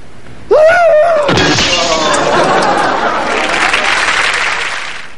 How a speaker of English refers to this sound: And there was my beautiful lamp all smashed to bits. Poor little hula girl lying there on the ground. That minute hand stuck right through her heart.